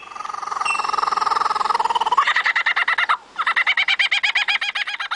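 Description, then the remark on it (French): A lyrebird mimics a kookaburra's laughing call: a loud run of rapid, rhythmic cackling hoots that starts as a dense chatter and breaks into evenly pulsed bursts, with no talking. “Par exemple, le chant du martin chasseur. Il l'imite à la perfection.”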